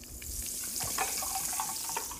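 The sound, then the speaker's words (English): A sparkling drink is poured in a steady, hissing stream lasting about two seconds, with soft bubbly splashes and faint gurgles throughout. Nobody speaks during the pour. “Let's see the sparkle satisfaction sound here.”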